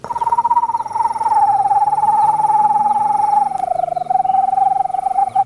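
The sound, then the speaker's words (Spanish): A person imitates the call of a rhythmic owl: one long, rapid, even trill held at a steady mid-high pitch for about five seconds, dipping slightly near the end, with no talking. “Otra de mis favoritas, que es un bú, que se le hace tecolote rítmico y le hace.”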